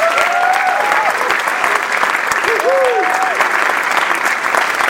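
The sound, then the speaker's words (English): A crowd at a World AIDS Day evening event held by Desert AIDS Project claps loudly and steadily for five seconds for everyday heroes, a dense unbroken patter, while a couple of voices whoop or call out briefly over the applause. “Please join me in giving another round of applause for all of our everyday heroes.”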